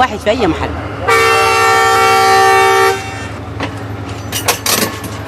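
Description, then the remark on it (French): A loud, sustained train horn blares steadily for about two seconds over rumbling rail noise as a train departs Port Sudan, Sudan, for Atbara, with voices murmuring faintly around it before and after. “Le train mettra près de 12 heures à parcourir les 500 km qui séparent Port-Soudan d'Atbara.”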